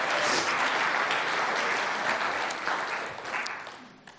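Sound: audience applause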